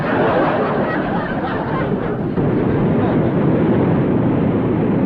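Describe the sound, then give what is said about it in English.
A loud, steady bus engine roar runs the whole time, a dense rumbling drone with little change in pitch, revving hard while the wheels spin in the mud without gaining ground. “Listen to him erasing that engine. Yeah, but the wheels must be spinning in the mud.”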